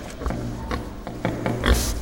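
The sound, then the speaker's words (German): A pig grunts and oinks repeatedly in short, snorting bursts over about two seconds, fairly loud, with a louder squealing grunt near the end. “Oh oh, die Schweine sehen ermattet aus.”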